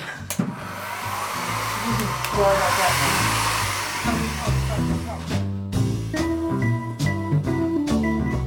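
Hair dryers blow steadily to dry a freshly painted first coat, a continuous loud airy rush over a whining motor hum that shifts slightly in pitch, with faint voices murmuring beneath the noise.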